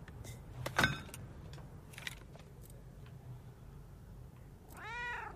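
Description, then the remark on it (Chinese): A cat gives one clear, drawn-out meow near the end, after a few sharp clicks and knocks over a low background hum. Nobody speaks. “猫猫啊，系。”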